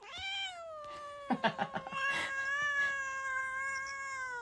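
animal, kitten meowing

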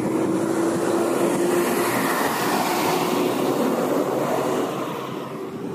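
vehicle, big truck driving past

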